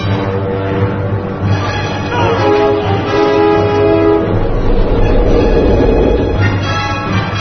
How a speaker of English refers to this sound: Hey, Blondie. Name's Jedediah. All right, Jedediah, stop the train, please. It's a big no-can-do, Cracker Jack.